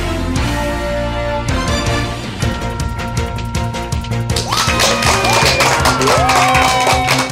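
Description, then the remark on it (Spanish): A crowd claps steadily and loudly, swelling into cheers and shrill whistles partway through, with a faint musical tone lingering underneath at the start. “Y con esa energía positiva y esos aplausos damos inicio a este episodio número 162 del programa Te Invito a un Café.”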